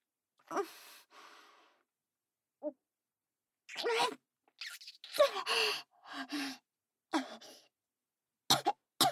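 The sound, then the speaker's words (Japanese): A breathy coughing fit: a string of harsh, irregular bursts with short gaps and gasping breaths between them, fairly loud and with no talking. “大丈夫、ちょっと咳込んじゃっただけ。”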